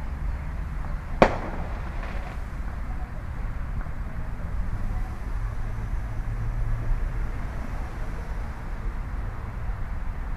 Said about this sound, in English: So we're not even up to the fireworks that are going off in the downtown area yet. These are just local fireworks right here in my neighborhood that are going on. The big stuff should start any time if I can pick it up well.